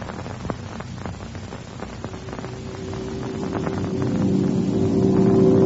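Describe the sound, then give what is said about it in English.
A steady engine drone hums throughout, its tone rising and growing louder toward the end, like airplane engines in flight. No one speaks. “Now keep her right on the course. And watch those engines.”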